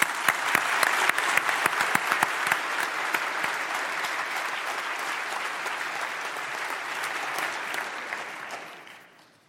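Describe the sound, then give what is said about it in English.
A debate audience applauds a speaker for the motion taking the podium, steadily for about nine seconds, dense clapping at an even loudness that tapers off quickly at the end. No one speaks over it. “And a round of applause.”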